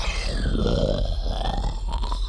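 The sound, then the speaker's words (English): A wet, shuddering noise made by an Aqualish alien creature: a low, gurgling, burp-like rumble that pulses and trembles steadily for about two seconds, loud and rough, with no talking. “The Aqualish made a wet, shuddering noise.”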